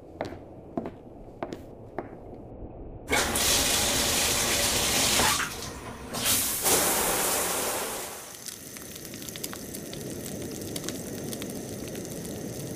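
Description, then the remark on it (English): A few sharp knocks and footsteps, then a shower bursts on with a loud, steady hiss of spraying water for several seconds before settling into a quieter, muffled running flow. “I'll talk to you again when I'm out of the shower.”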